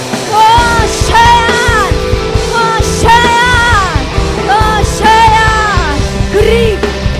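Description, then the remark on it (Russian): An audience shouts loudly together in worship, crying out to God, a dense wall of raised voices with strained, rising cries sweeping over it, continuous for several seconds. “О, вы не умолкайте, не умолкайте, не умолкайте, не умолкайте, не умолкайте, кричите, кричите.”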